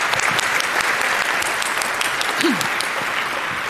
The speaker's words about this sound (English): I would like to say thank you to everyone who's asking questions today, because you are making talks even more amazing than they are. So a round of applause to everyone who has asked speakers at least one question.